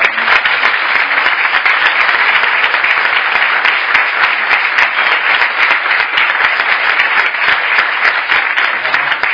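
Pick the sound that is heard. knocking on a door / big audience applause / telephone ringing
big audience applause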